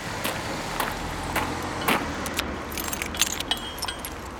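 Keys jingle and clink in a series of bright, metallic rattles, irregular and scattered over a steady low rumble of passing traffic. No one speaks.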